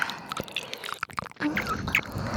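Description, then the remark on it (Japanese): Wet mouth sounds, a steady run of moist clicks, smacks and squelches with no talking, fairly soft and tightly packed, briefly thinning out before picking back up. “私の水の音に溺れてください。”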